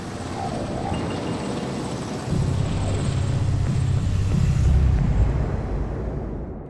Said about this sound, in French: Plusieurs dizaines de gendarmes de patrouille sillonnent les routes un peu du département, même voire à l'extérieur, et le survol de toute la région en hélicoptère.